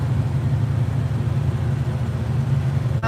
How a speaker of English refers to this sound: Yeah, it's a good traveling engine. It's not the most powerful, but it's good.